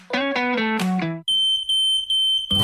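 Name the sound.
smoke detector alarm beeping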